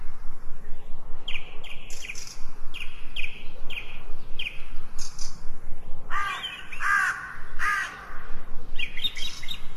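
Several birds sing in a lush green forest over a steady outdoor hush: a string of short repeated chirps early on, then louder, harsher cawing notes midway, with lighter calls returning near the end. No voices.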